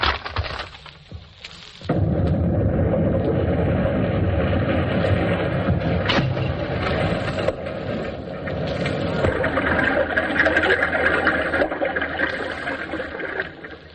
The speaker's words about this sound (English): Sounds more like a beer krieg to me. Well, this catastrophe was produced first by a couple of fruit tills being smashed. Then an explosion record played while two panes of glass were crashed, and then the explosion was faded down